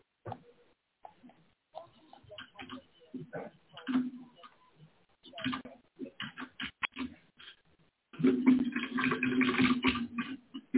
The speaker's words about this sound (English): I can hear you typing.